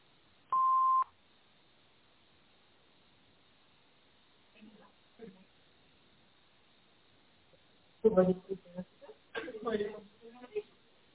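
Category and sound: signal or alarm, answering machine beep tone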